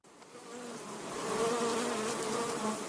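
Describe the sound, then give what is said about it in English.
A dense, steady drone of many bees buzzing together inside a hive as they make honey, layered hums wavering in pitch and swelling slightly louder as it continues, with no voices present. “Bees hard at work inside a hive, making honey.”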